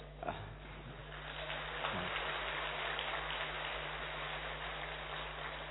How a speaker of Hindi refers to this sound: अभी क्यों ताली बजाया, पता है क्यों ताली बजाया? पीछे वाले बोल रहे हैं, इसीलिए ताली बजा रहे हैं,